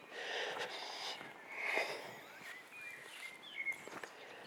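A female dog sniffs and snorts in short, irregular snuffling bursts during an outdoor walk, with faint birdsong chirping in the background.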